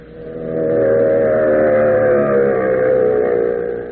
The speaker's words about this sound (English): Fellows and girls, hear that sound? It's the terrific pulsating roar of a racing motor. It's the shriek of racing tires traveling at 100, 120, faster than 150 miles an hour.